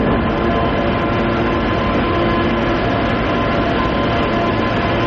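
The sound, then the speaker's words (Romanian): The Prietenia passenger train between Chișinău and Bucharest rolls steadily along the rails, a loud, continuous rumble with dense rattling and clatter filling the whole clip, with no voices. “Colega noastră Eugenia Pogor a călătorit de la Chișinău până la București cu trenul Prietenia”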